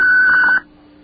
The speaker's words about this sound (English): Well, yeah, I guess you can leave a message. That's what the little beep means.